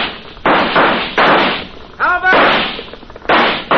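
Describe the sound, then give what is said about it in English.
In a radio drama, four loud gunshots crack out at uneven intervals, each leaving a harsh noisy tail, with a short voiced cry between the second and third shots. “Start shooting, Jonah.”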